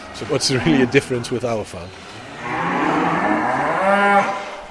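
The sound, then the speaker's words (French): A person talks briefly, then a cow on a farm lets out one long, loud, drawn-out moo that swells and wavers for about two seconds. “Les vaches broutent de l'herbe, alors on les sort autant que possible.”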